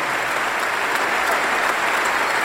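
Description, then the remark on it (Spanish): An audience at a gathering of Tucumán Peronists applauds steadily to thank the vice governor of La Rioja, a dense wash of many hands clapping at an even, sustained level throughout with no pauses or voices standing out. “quiero que el peronismo tucumano, quiero que nosotros como equipo, simplemente con un aplauso le agradezcamos por todo lo que hacen.”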